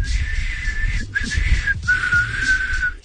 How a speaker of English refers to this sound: It's less whistling than blow humming, but go ahead. All right. Here it is.